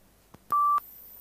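A Victor audiobook player switches on: a faint click, then a single steady mid-pitched beep lasting about a third of a second, clear, with no voices.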